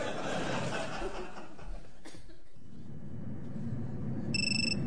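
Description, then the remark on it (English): Chuckling and laughter fill the first half, then a bright electronic mobile phone ringtone cuts in near the end, short and clear above the background murmur. “your phone.”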